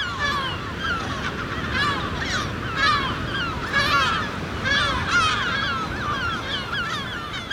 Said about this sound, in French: on va aller capturer des goélands argentés, des goélands bruns et peut-être du goéland marin, dans le but de leur poser des bagues et des GPS.